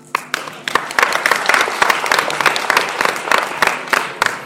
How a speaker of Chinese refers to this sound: 感谢各位掌声鼓励啊！相声大会给您换了一场。